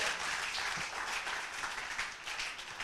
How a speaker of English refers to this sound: Amplified Bible. Clap for the Amplified Bible.